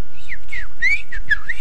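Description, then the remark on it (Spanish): A person whistles a quick, warbling birdsong imitation: a run of high sliding chirps and trills, rising and falling in pitch, fairly loud and with no talking. “Pero la idea era el canto de un pajarito, ¿ya?”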